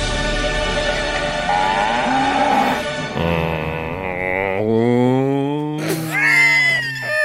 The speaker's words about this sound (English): Who's that? That's cow. Spooky cow.